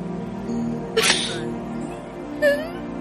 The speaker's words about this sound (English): She's crying. Why are you crying, my dear?